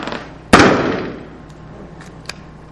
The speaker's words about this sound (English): And I am going to pop the balloon now, so if you need to, hold your ear.